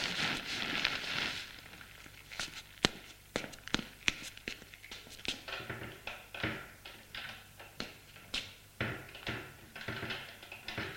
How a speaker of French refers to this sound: Les pas proviennent du couloir.